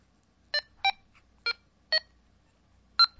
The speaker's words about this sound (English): In fact, if I try to enter in memory 166, let's see here. Enter 166. It won't go there. You see, I got the high beep.